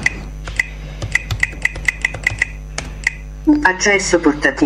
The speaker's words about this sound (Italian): Quindi io inserisco la password del mio utente.